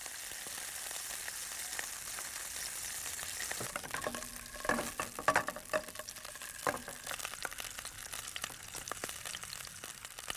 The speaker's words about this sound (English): Within 2 minutes, the sunlight has heated the pan so much that sausages and onions are sizzling away.